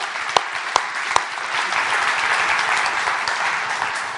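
A church audience claps for the worship team, a steady, dense, continuous wash of applause, with a few sharper individual claps standing out near the start, holding at an even level for several seconds.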